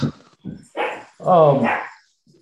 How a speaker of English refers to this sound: And man, those coyotes are really going. There's a coyote fight.